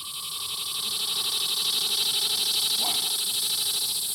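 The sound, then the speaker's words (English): A loud, steady chorus of Brood 14 cicadas reemerging in spring buzzing, a dense high-pitched drone with a rapid pulsing texture, constant for the whole stretch, with a brief faint chirp partway through. “So when it comes to revivals, something is reemerging this spring, and I'm talking about the cicada comeback.”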